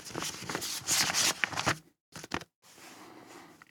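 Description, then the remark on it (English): A sheet of paper rustles and crinkles, a run of dry scraping bursts, then a brief pause and a couple more soft shuffles, with a faint hiss trailing at the end. “Oh, I'll get a sheet of paper to help you understand.”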